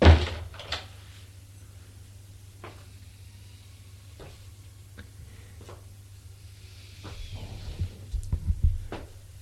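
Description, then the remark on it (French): A door bangs shut with a loud thump, then a few soft clicks and knocks follow over a steady low hum, with some faint shuffling toward the end. “Ferme la porte.”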